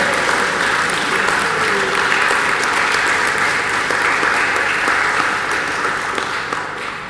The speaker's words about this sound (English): Well, go on, we clap again.